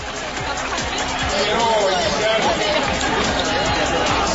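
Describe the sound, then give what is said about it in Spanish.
Steady outdoor crowd murmur from the public on an esplanade, as President Juan Manuel Santos prepares to speak, many voices blending into a dense babble with no single speaker standing out, continuous and moderately loud throughout. “voy a ver si tengo sonido a esta hora desde la explanada.”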